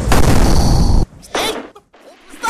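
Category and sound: sound effect, cannon being fired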